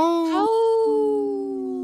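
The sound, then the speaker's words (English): A human voice imitates a wolf howl: one sustained, rising-then-gliding tonal cry, fairly loud, held for nearly two seconds with no other talk. “Howl! Oh, I heard you”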